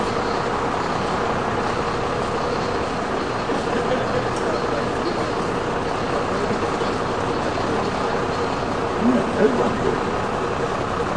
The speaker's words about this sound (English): I'm sorry, sir, the bus behind me, I can't hear you very well. Could you come up a little?